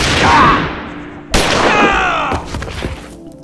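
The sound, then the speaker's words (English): A loud, sharp blast of gunfire cracks out as a man is shot, followed by a few quicker shots and a ringing, reverberant tail fading away. “A curious ringing began in his ears, replacing the blast of gunshots he had heard moments before the slug hit him.”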